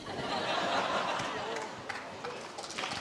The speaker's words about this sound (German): Oh, dafür gibt es Applaus, mein Gott.